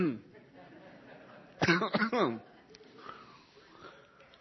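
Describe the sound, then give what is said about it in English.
A person choking on smoke from Mexico clears their throat in two or three harsh, raspy bursts, halfway to a cough, with quiet breathy sounds before and after. “I don't choke to death up here. Let me see if I can get through this.”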